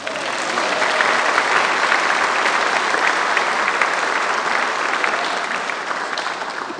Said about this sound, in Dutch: Geef eens een applaus.